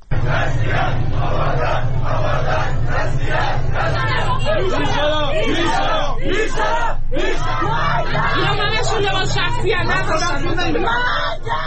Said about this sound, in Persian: ویدئوها و تصاویر منتشر شده در آبادان از درگیری میان مردم و نیروهای گارد ویژه حکایت داشت.